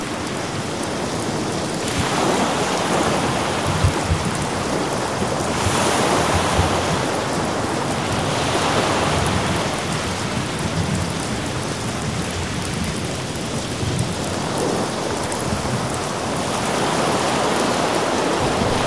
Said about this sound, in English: Yes, he just sat there in a chair in front of a small desk with that candle on it, listening to the wind, rain, and thunder.